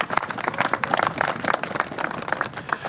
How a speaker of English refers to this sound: And without the men and the women of the Buffalo Sewer Authority being out there working hard day in, day out, these projects would never come to fruition. So I'd like to give them another huge round of applause.